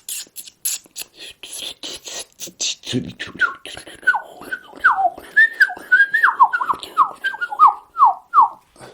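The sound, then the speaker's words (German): A person imitates blackcap song: a scratchy, twittering warble opens, then gives way to a run of clear whistled notes, each sliding downward in a quick rhythm, fairly loud. “Also die Grasmücke, die Mönchsgrasmücke, die fängt an mit so einem.”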